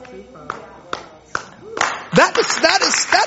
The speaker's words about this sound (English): I don't know why you are clapping. I'm just telling you what Christianity is like.